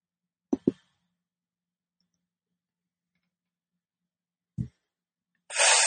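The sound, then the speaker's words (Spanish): Four dice clatter onto a hard surface: two quick sharp clacks, a pause, a single knock, then a brief rattling burst at the end. Crisp, with no voices. “Eso tira 4 dados, él también.”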